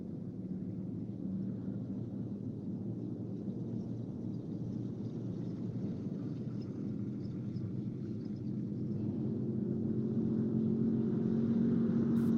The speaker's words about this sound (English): Viewed through binoculars, a convoy of army jeeps approaches the Air Force base.